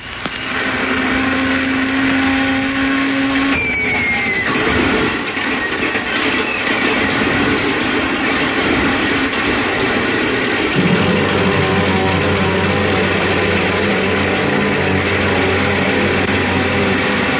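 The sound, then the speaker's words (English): A loud, steady airplane engine drones as it is warmed up for takeoff at an airport at night, its roar shifting to a deeper, heavier hum partway through, with no voices. “I didn't waste much time warming up the engine.”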